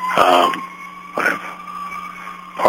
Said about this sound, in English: Ambulance here.